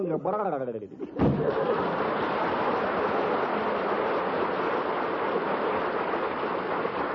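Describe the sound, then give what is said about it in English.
A voice sounds briefly, then a sudden, steady rush of pouring water like a heavy rain shower bursts in and hisses on loudly and evenly to the end. “Just wait till April showers come.”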